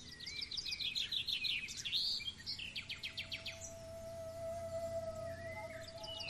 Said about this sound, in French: Des oiseaux chantent sur votre passage.